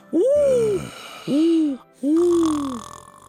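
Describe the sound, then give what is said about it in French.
A voice imitates the wolf of the Little Red Riding Hood tale snoring as it sleeps after eating: three drawn-out, groaning snores, each with a falling pitch and short pauses between them, clear with no other sounds. “Lorsque le loup eut apaisé sa faim, il se coucha, s'endormit et commença à ronfler.”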